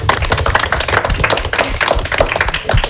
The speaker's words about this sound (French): On peut applaudir, c'est la fin de cette émission. Merci beaucoup.